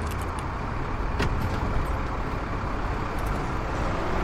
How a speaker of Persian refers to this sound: رضا با کامیون میاد سمت گاراژ میرعزی.